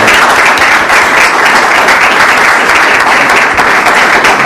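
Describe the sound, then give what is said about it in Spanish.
Sustained audience applause welcoming a speaker to a two-day session held by the Comisión de los Jóvenes Abogados, a dense, steady wash of many hands clapping at an even, loud level throughout, with no voices standing out. “Así que debía pedir a todos un fuerte aplauso para recibirlo y que sea la palabra a recibir.”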